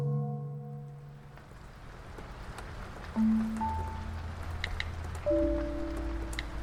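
Steady rain, which has been falling for four days, hisses throughout at an even, moderate level, while a few sustained electronic-sounding tones fade in and out over it.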